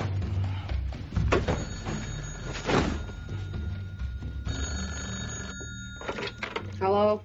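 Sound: telephone ringing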